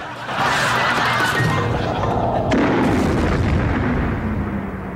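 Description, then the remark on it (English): Lister fires a gunshot at a control panel after slamming a door shut behind him, setting off a loud, sustained roaring, crackling burst with a sharp crack about halfway through, lasting several seconds with no voices. “Lister runs through a door, slams it shut behind him, and shoots at the control.”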